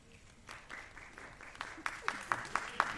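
An audience of about 400 people applauds, asked to clap so the claps can be counted, a dense patter of many hands clapping that grows louder and sharper toward the end, with a few distinct claps standing out.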